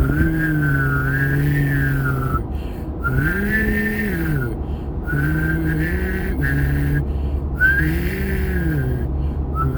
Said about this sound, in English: I used to be able to whistle hum. Can I do that? I can! I didn't know I could whistle hum still.